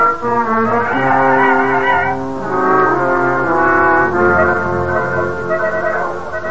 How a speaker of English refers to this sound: He says he's going to take us home. See, the one blowing his horn.